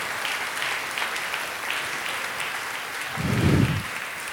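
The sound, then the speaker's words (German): An audience claps for a participant who took part, a dense, even patter of applause throughout, with a brief low rumble swelling near the end. “Er darf einen Applaus kriegen.”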